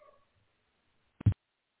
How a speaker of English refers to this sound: I'm hearing the dogs in my neighborhood bark. That's interesting. Very interesting to see and hear.